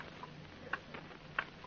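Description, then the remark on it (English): A clock ticks steadily, a few crisp, evenly spaced clicks standing out against a faint background hum. “Oh, that clock. clock again.”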